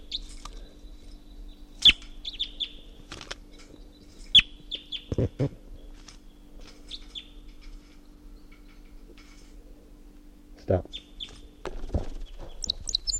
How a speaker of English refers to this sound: Wild bird flight song. It's going toward the net. Stop. So recording 7:26. That wild bird is up in the tall pine above the net and was giving flight song and song phrases.